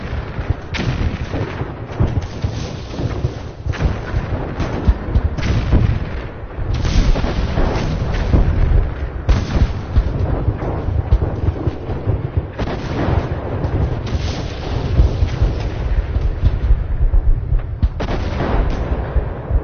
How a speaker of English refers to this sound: This is the moment of the end of World War I. Mm-hmm. So you'll hear shelling, and then it'll stop.